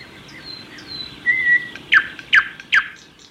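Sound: birds singing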